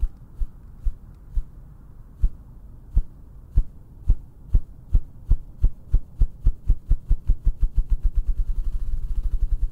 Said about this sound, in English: the low wavelength of the ruffed grouse sounds could keep them safe